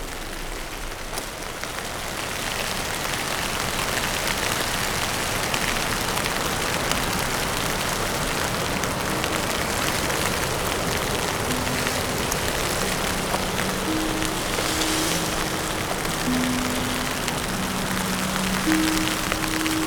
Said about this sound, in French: Dans cette petite averse type bourrasque que je vous laisse aider de mon parapluie pour me protéger des rafales du vent. Et vous faire écouter ces grains de neige.